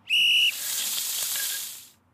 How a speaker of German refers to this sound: Ich mag das Geräusch übrigens. Ich auch. Eine Pfanne und Brutzelei.